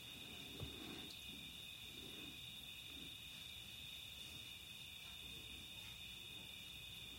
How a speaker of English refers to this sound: So tonight the cicadas are loud. It's been a warm day.